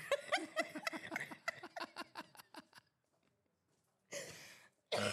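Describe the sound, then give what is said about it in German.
A run of rhythmic, fading laughter, then a short pause before two harsh coughs in quick succession, the second cut off at the end. “Genau, hust ihn mal aus, meine ja, Liebe.”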